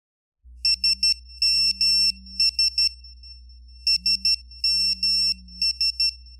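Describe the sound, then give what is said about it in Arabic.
A mobile phone rings for an arriving message with an electronic pattern of quick high beeps and low tones, repeated twice, loud over a steady low hum, with no talking. “شوف جوالك يرن، شكلها رسالة وصلت.”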